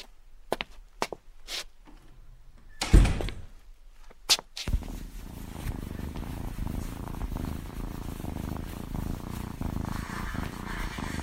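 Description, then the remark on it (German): A few sharp clicks and a thump, then a domestic cat purrs, a steady low rumbling purr that continues without pause to the end. “Können wir mal so eine Katze hören?”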